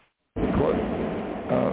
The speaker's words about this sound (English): You'll have to excuse me. I heard just a frightening crash of thunder here. I don't know if it's raining up by you.